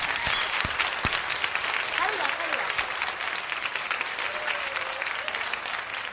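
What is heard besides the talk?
loud audience applause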